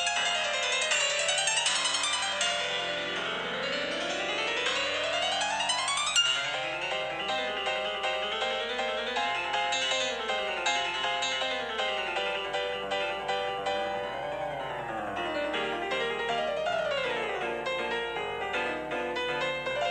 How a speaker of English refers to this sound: Here is a classical piece. Does it have a title? No. All right, roll them. Roll them. You're doing it over the phone.